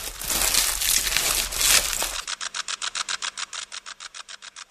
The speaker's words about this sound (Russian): Тсс! Слышите? Что это? Треснуло и затихло. Ну, улетел. Это кузнечик зеленый.